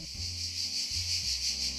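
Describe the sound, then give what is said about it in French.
A voice imitates cicadas with a steady, buzzy, high-pitched rasp that pulses rhythmically about four times a second, over a low hummed drone, lasting just under two seconds. “Est-ce que vous savez imiter le son des cigales?”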